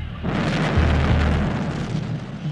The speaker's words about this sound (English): In the 70s, it was mayhem in Northern Ireland. The death toll in Northern Ireland in 1972 reached 467. A grenade was thrown, and then there was a massive explosion.